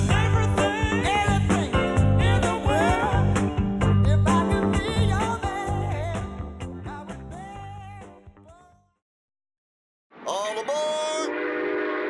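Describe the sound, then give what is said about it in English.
A loud train horn blares in sustained chords over rumbling rail noise, gradually fading away as the train passes, then after a brief silence another horn blast sounds. “A new way to travel, and it's one of the oldest forms of transportation. Travel by train.”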